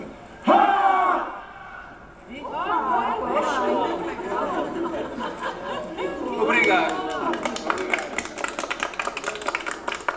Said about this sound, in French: qui est anthropologue au Cresson, a proposé que nous poussions en grand cri.